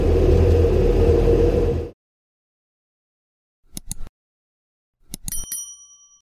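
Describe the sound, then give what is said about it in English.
A bright notification-style bell dings twice, each ring brief with a shimmering metallic tail. The rings come after a loud rumbling burst that cuts off abruptly into silence. “And if you do like what you see or what you're hearing, feel free to subscribe and hit the bell button so you get notified of the next episode.”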